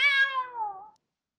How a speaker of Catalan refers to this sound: És el gat de la veïna.